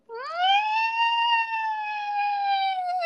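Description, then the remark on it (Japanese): A voice imitates the long, howl-like cry that Chii-chan makes in the mornings: a single tone that rises quickly, then holds steady for about three seconds, with rich harmonics and a slight dip at the end. “だから、コヨが犬科だからか分からんけど、映っちゃったのかもしれないんだけど、朝とか遠吠えみたいな鳴き声してる。”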